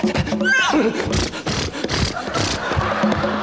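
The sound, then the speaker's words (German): A single shrill horse whinny sweeps downward near the start, from horses pulling a coach as they hurry, set among loud, noisy bursts and a busy, crowded background that continues after the neigh fades. “Und der Kutscher beeilt sich! Und die Pferde beeilen sich!”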